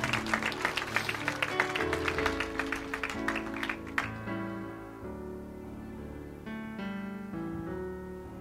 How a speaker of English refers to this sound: All right, praise the Lord. Give the Lord a good hand clap.